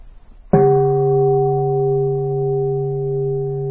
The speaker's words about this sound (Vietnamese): Cho nên thức chuông có nghĩa là có khi người ta thức 2 tiếng, ta thấy cái đạo tràng nó chưa đủ yên, cho nên họ lại thức thêm 1 tiếng nữa, rồi họ mới thỉnh tiếng chuông thông thả. 3 tiếng chuông rất là thông thả.